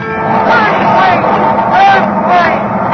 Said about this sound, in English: Earthquake!